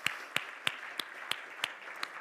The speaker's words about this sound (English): Could we give them a round of applause and praise God?